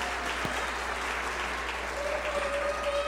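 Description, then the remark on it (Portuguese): Steady applause from a crowd at a public session, called for in honour of Deaf Day (Dia do Surdo), a dense wash of many hands clapping at even loudness throughout, with a faint sustained tone rising underneath near the end. “Eu queria uma salva de palmas pelo Dia do Surdo.”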